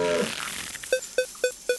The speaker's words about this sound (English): And I'm going to move my finger around the screen until that beeping sound gets very fast. And then I'll release my finger off the screen and shoot my bow.